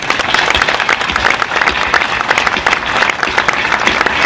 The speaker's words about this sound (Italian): Allora vogliamo fare un applauso alla vita, a Dio.